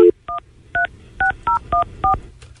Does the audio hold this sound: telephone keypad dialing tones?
yes